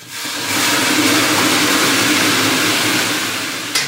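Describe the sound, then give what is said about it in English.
Water ladled onto hot stones on top of a sauna's wood stove bursts into a loud, steady hiss of steam that swells after a brief pause, holds for several seconds, then eases off with a small splash at the end. “He ladles water onto stones on top of the wood stove.”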